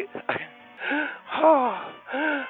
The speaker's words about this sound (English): Are you all right? I'm fine, okay. I'm just having a hard time breathing.